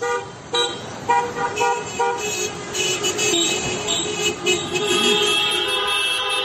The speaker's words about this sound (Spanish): Este sonido que escuchas son las calles de Badajoz, bocinas y cacerolas que también se repetían en las calles de Cáceres.